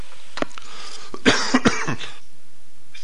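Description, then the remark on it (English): A few harsh coughs from a radio host coming down with a respiratory illness burst out in quick succession, with a couple of quieter throat-clearing sounds before them, then it falls quiet. “Sorry for the coughing, folks.”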